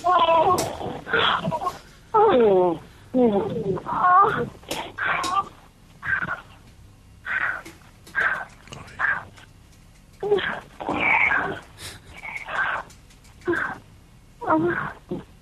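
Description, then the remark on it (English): A voice lets out a string of loud, drawn-out moaning sounds in short bursts with brief pauses between them, each one smeared by heavy echoing reverb. “People are liking the echo, actually.”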